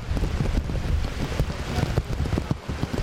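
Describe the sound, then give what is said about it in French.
Heavy rain pours steadily in Port-au-Prince, Haiti, a dense hissing wash with scattered patters and a low, gusty rumble of strong wind underneath. No one speaks. “Et dans Port-au-Prince, dans moment n'a parlé à là, c'est kounya la pluie a dit l'a vini et l'a vini bien fort avec un pile vent.”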